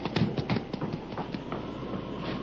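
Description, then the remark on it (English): A hard-ridden horse's hooves clip-clop down the muddy main street of Miner's Gulch in a quick, uneven run of hoofbeats, moderately loud over a steady low rumble of background noise, as the rider reins in before the sheriff's house. “Molly Thatcher urged her hard-ridden horse down the muddy main street of Miner's Gulch and reined him in before the sheriff's house”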